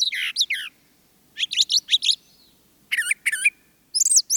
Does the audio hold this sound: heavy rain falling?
no